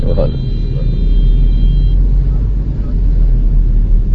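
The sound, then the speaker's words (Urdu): Loud, steady rumble of a convoy of cars and motorcycles driving one behind another, engines droning continuously throughout, with a brief high whine near the start and indistinct voices mixed into the traffic noise. “یہ سب ماشاء اللہ آپ کی اس خدمت میں ہے, سب یہ موٹر سائیکل ہیں, گاڑیاں سب آگے پیچھے ہیں.”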